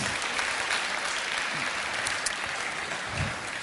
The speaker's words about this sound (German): Zwischenapplaus, das ist schon was.